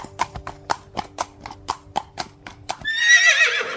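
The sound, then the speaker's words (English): A steady run of about a dozen crisp hoofbeats clip-clops, then a loud, wavering horse whinny rings out at the end. “A horse!”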